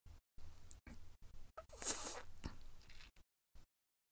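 Wet slurping mouth noises while slurping up a puddle of fluid from the floor, in a series of short irregular bursts, with one louder, longer slurp in the middle and quiet gaps between. No one speaks.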